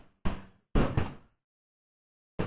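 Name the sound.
knocking on a door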